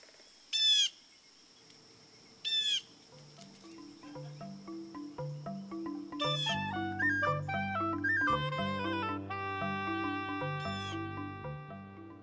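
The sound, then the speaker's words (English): A red-shouldered hawk gives two loud, piercing, downward-slurred screams a couple of seconds apart, then gentle music with more bird calls rises up and carries on to the end. “And astute mimicry of birds of prey, such as the red-shouldered hawk.”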